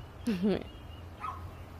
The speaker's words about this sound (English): But and somebody's little dog is agreeing.